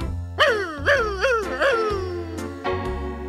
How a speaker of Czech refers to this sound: Tenhle náš pejsek vyje tu jak šakal.